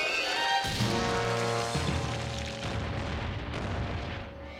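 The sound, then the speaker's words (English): A heavy rock, pushed off a cliff by Spike, slams down on the head of the T-Rex Sharp Tooth with a booming, shattering crash as he crashes to the ground, followed by a rumbling, crumbling roar of debris that fades slowly. No one speaks. “The T-Rex crashes to the ground, the rock shattering on his head.”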